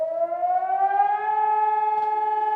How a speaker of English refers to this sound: So on this day, pretty much wherever you are in the country, at 11 a.m., there's this 2-minute-long siren that sounds.